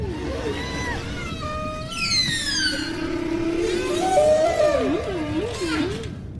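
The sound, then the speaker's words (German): Humpback whale mating song: long moaning tones and rising whoops, a burst of high squeals partway through, ending in a loud wavering warble, all over a constant low watery rumble. “Der Buckelwal ist ja bekannt für seine faszinierenden Gesänge.”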